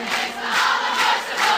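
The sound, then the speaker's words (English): A crowd of voices in Holland singing together in a loud, steady wash of sound, swelling in rhythmic pulses over a brief stretch. “They were quite happily singing whatever song they were singing, yeah, and then he rudely interrupted it.”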